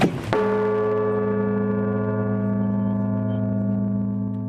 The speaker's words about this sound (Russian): Сейчас здесь сделано время, чтобы звонарь мог благовестить. Я могу вам показать, как это осуществляется. Давайте. Вы видите, там качается вот эти балки.